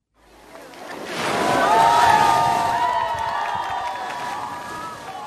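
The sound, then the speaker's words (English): A crowd of locals cheers and shrieks at the annual New Year polar bear dip at Auk Rec, where participants in swimwear rush in and out of frigid water; the noisy swell rises fast and stays loud with high excited voices, splashing and a wash like surf underneath. “A crowd of locals rang in the new year yesterday at the annual polar bear dip at Auk Rec.”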